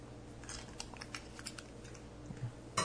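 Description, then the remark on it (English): Someone cutting open a cardboard box: a series of quiet, irregular scratchy clicks and snips, ending in one louder, sharper tearing slice, with no talking. “I'm going to cut the box.”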